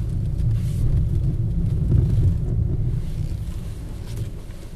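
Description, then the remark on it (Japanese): A car's low engine and road rumble fills the cabin, easing off gradually as the vehicle slows toward a stop, with some wind buffeting and no one talking. “さあ着きました。 ちょっと停車するまで待ってください 。”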